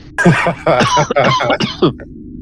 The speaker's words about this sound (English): Oh, goodness. Coughing. Oh, that probably doesn't feel good in the back. I'm sorry, dude.